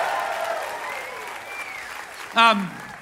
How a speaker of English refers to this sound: We are feeling all that love here in this beautiful space tonight, and I want you to share even more of that love and join me in giving a warm round of applause to our host, Chris Hayes!